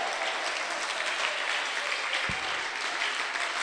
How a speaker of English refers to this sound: This one you should be clapping, shouting, because I'm talking about you now. Oh, it's as if your claps are finished.